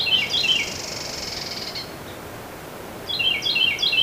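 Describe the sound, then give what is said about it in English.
A Carolina wren sings loud, repeated three-note tea-kettle phrases in quick rhythm, with a softer, sustained rolling trill from its mate responding underneath before the song resumes. “Here's a classic song, a three-syllable tea kettle, tea kettle, tea kettle, with this bird's mate responding with a rolling trill.”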